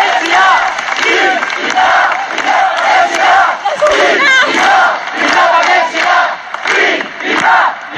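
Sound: crowd cheering and shouting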